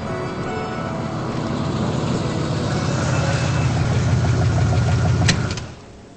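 An old Pontiac car engine idles with a steady, rough low rumble and faint rhythmic ticking as the car is pulled to a stop on a rain-soaked city street, then a sharp click as it cuts off, leaving a quieter hiss.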